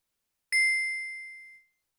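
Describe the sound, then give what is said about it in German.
A single bright chime, like a mobile phone notification tone, rings out once and fades smoothly over about a second, clear in an otherwise silent moment. “Ist das Ihr Handy?”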